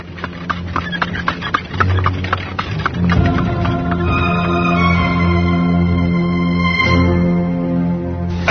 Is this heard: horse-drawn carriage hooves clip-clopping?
yes